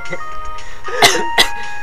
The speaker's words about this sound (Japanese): さっきから咳込みっぱなしっすね。